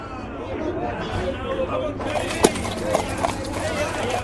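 Hooves of a donkey carrying two riders, a man and his son, clip-clop along a road in a steady walking rhythm under a hot sun, with a few sharper knocks standing out over a soft murmur of background noise.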